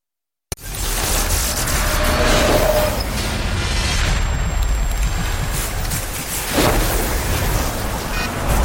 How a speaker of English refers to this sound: Viene una tormenta! What did he just say? He said there's a storm coming in.